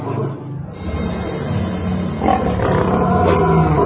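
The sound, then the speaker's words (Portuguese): Lions roar and growl loudly and continuously, deep rumbling snarls overlapping and swelling toward the end, with no speech present. “Então o rei mandou que trouxessem Daniel e o jogassem na cova dos leões.”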